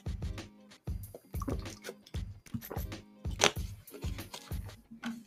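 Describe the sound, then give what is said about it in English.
Water glugs and gurgles in a quick, uneven series of pulses, like liquid being poured or gulped, with no talking over it. “I need some water.”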